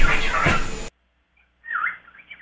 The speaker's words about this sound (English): Oh, they're having a conversation. It's not that gifted. He's talking to himself. I don't think your bird is saying anything.